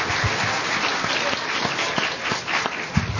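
A crowd applauds steadily for a department director and a colleague, many hands clapping in a dense, continuous wash of sharp claps at an even, moderate loudness with no voices over it.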